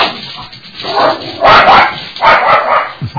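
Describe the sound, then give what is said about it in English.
A dog barks in several loud, closely spaced bursts, fairly harsh, with no talking over it. “but whenever he hears of the dogs, he just goes mad and runs to the front door.”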